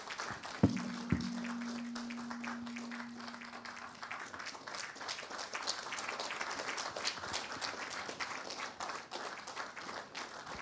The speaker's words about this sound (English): A round of applause